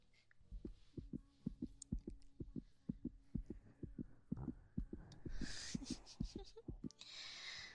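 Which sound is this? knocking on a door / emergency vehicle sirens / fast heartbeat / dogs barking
fast heartbeat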